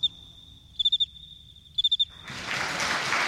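A male cricket chirps with a high, steady trill, made by raising and rubbing his two front wings together (stridulating), scraper against file, twice breaking into quick bursts of four pulses, before a swelling wash of noise like applause takes over.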